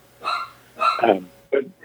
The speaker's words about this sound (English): Cue vacuum, followed by dog barking at vacuum.